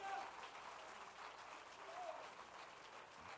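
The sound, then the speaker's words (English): An audience claps steadily together to bless God's name, a dense, continuous wash of hand claps at moderate loudness, with faint voices mixed in the background. “If you love him, clap your hands into him and bless his name.”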